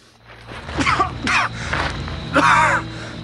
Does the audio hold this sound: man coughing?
yes